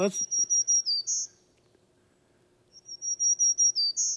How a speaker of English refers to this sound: We have a bunch of bird songs that Lee's got queued up today. And one is the black-throated green warbler.